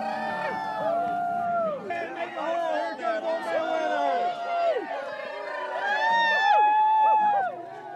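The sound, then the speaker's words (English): A large crowd cheers, whoops and howls continuously, many voices overlapping with rising and falling yells, loud, with a swell of cheering near the end, as an Old Man Winter figure is hauled onto a bonfire at midnight at a West Virginia celebration, at 40 degrees. “is given the honor this year of hauling Old Man Winter onto the bonfire, amid cheers and howls from the crowd.”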